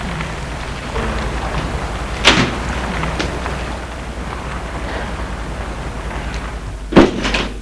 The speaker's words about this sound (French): Elle va ouvrir la porte de son allée.